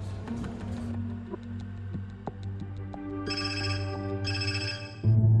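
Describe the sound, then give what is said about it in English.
A telephone rings with two bright electronic bursts, a call from a sports reporter, preceded by soft, steady ticking over a low humming drone, ending in a dull thump. No one speaks. “Sean got a phone call by a sports reporter who had heard that a pregnant woman in Deerfield had been murdered.”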